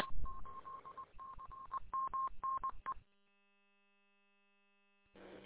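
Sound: phone dialing tones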